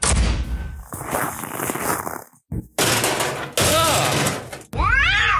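A dull thump and clatter as a cat, Mrs. Norris, is bumped, giving way to her loud, drawn-out yowls. Several wavering, angry cries follow one another in quick succession.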